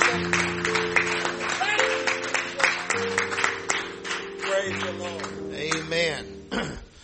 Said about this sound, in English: And let the church say in Jesus' name, would you clap your hands one more good time to the Lord? Thank you.